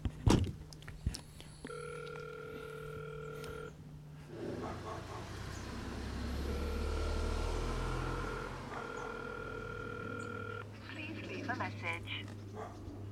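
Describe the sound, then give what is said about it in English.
An intercom call rings out in steady electronic tones at a house in a village, two long rings a few seconds apart, clear over a low background rumble with faint muffled voices. “I'm going to press to call.”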